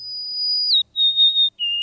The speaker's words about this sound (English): And the sweet, clear whistles of the golden-crowned sparrow.